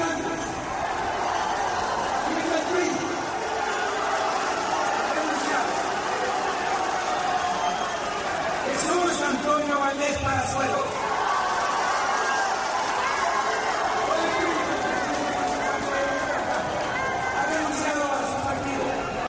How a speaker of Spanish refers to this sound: Sin embargo, el abucheo de la militancia morenista opacó sus palabras. Aquí el momento en que le solicitan que deje de decir Mary Janes.